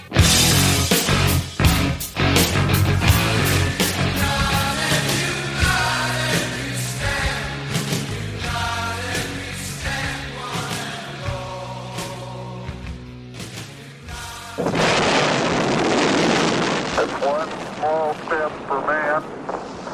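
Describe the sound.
A loud heavy metal song with dense, distorted guitars and pounding drums plays, then gives way near the end to a rougher, noisier wash with a voice over it.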